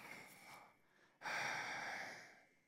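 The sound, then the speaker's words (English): A voice imitates heavy breathing into a phone, as if breathing on the phone for hours with a first love: a slower breath, a brief pause, then a louder, longer exhale that fades out, alone with no talking. “Man, you just be breathing on the phone for hours with them.”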